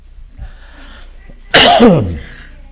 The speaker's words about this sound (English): Excuse me, I need to cough.